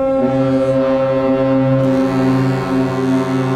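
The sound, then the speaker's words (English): A deep, loud foghorn blast drones steadily for several seconds, a single sustained low horn tone rich in harmonics, like a large ship sounding its horn, with no voices. “Yeah, kind of like a foghorn.”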